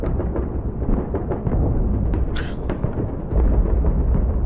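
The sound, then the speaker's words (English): World War II battle sounds played from a video on a phone, with continuous heavy rumbling explosions and booms, dense and loud throughout, with one sharp, bright crack like a gunshot partway through. No voices. “Is this like, are they gunshots? World War II battle sounds.”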